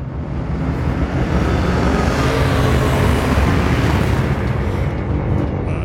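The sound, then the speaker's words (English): A sci-fi Bird of Prey starship effect: a loud, dense engine roar with deep rumble and hissing texture, holding steady for about six seconds with no voices. “It was a bird of play.”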